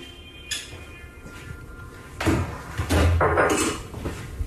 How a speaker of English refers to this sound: Oh, I need a little WD-40 on one of those doors. What the hell's going on there?